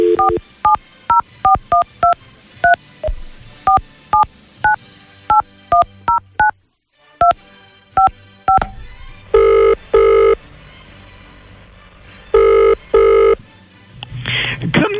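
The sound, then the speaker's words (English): A rapid string of telephone keypad tones beeps out a number to call the Queen, followed by a pause and two loud ringing bursts of the line calling out, with no one speaking. “So let's see if we can get her on the phone,”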